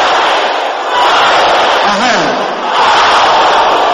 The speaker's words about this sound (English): Can I hear you shouting in the air? Yes.